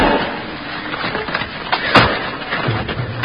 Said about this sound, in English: Now, where's that crowbar he gave us to open the door with because he's lost the key? Here it is. Just wedge it in the door. Now.